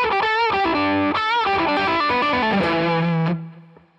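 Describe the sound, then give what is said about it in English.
A distorted electric guitar plays a fast, flowing lick of bending, sliding notes with hammer-ons and a smooth, violin-like legato meant to sound like a string player, loud throughout before ringing out and fading at the end. “I just like it when it sounds like a string player.”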